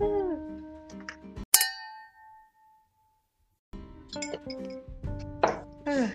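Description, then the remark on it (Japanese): A single bright clink of drinking glasses, holding matcha and herbal water, touching in a toast rings out clearly and fades over about a second, with people chatting just before and after. “はい、じゃあ抹茶と、私は今日は、なんかハーブウォーターを用意してるので、はい、乾杯したいと思います。”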